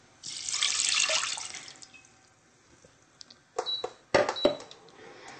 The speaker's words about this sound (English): So now we're going to add in a cup of water.